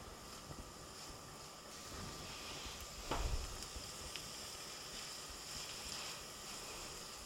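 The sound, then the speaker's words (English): Gentle, steady sizzling of onion and garlic being stirred together in a pan as they just start to sizzle, a soft continuous crackling hiss with one brief clunk partway through, with no voices. “We're stirring the onion and the garlic together, and it's just starting to sizzle a little bit.”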